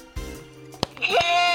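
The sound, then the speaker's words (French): A personalized quiz buzzer, tested into a microphone, goes off, playing a short, loud bleating sound like a sheep, preceded by a sharp click and a low hum. “Tiens, tu peux tester ton buzzer dans le micro.”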